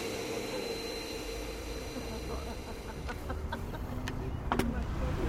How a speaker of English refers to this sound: Going the other direction now. Woo! Right. Gentlemen, we have an electric car.